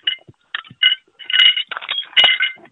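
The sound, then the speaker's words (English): Broken window glass, from a house window that a fairly large bike was thrown at, crunching on the ground outside the house: a run of bright, clinking, gritty bursts in irregular clusters, louder toward the end, with no one speaking. “That is the glass that's still on the ground.”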